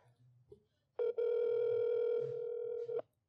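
A phone ringback tone sounds once as a call is placed, a steady buzzy hum lasting about two seconds with a brief stutter at its start, over faint low murmuring.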